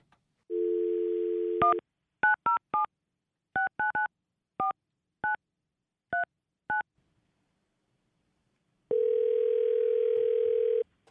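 A steady telephone dial tone, then about ten short, clipped touch-tone beeps in an uneven keypad rhythm as a call is dialed to a dog musher, followed by a long, even ringing tone. No voices.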